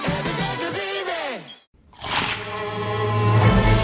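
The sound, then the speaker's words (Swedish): A sharp, crackly crunch bursts out after a brief silence, a bite into crispy McDonald's McCrispy fried chicken, set between stretches of tonal music with a falling, sliding pitch. “Upptäck det vackra ljudet av McCrispy & Company för endast 89 kronor. En riktigt krispig upplevelse.”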